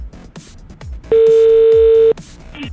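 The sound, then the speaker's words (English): A phone's ringback tone while a call is being placed: one loud, steady electronic buzz lasting about a second, set against faint background noise. “I just need to call somebody. This is a weird ringtone.”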